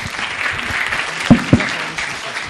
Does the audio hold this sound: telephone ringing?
no